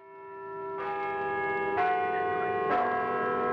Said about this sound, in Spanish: El miércoles, a las 12 del día, hubo repique general de campanas y salvas de artillería por la entrada de José I en España, cuya noticia trajo un correo de gabinete español llamado Mazorra.